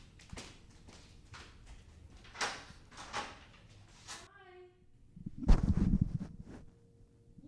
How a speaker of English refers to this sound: only crack the door. Crack the door. Just crack it and just be like, hello.